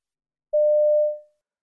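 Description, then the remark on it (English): A single steady electronic telephone tone as a number is dialed to find out about night classes, sounding alone for just under a second before fading out, clear. “You dial a number to find out about night classes.”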